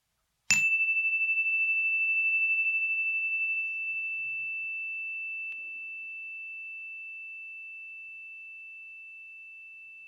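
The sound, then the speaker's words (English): A single meditation chime is struck once to begin a meditation, ringing with a clear, sustained tone that slowly fades over several seconds amid silence. “We'll begin and end this meditation by bringing our awareness to the full length of the sound of a chime.”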